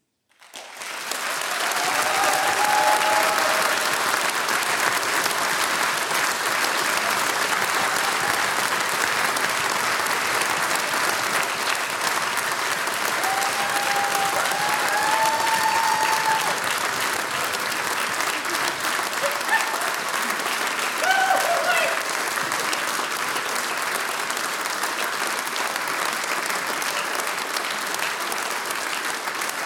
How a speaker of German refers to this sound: Ja, und der Applaus ist ja das Brot des Künstlers. Und diesen Applaus, den bekommen jetzt alle unsere Mitwirkenden des heutigen Abends.